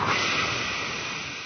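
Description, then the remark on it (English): A forceful whooshing exhale, a steady breathy rush of air lasting about a second and a half, fairly loud, tapering slightly at the end with no talking. “We're going to whoosh it.”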